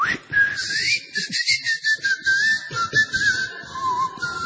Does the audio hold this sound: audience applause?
no